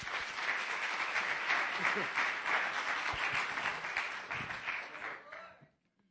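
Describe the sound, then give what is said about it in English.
An audience breaks into sustained applause for a group of singers about to sing at a ministry service, many hands clapping densely and steadily for several seconds before it tapers off and falls quiet, with faint voices mixed in beneath. “If you will, just give them a round of applause.”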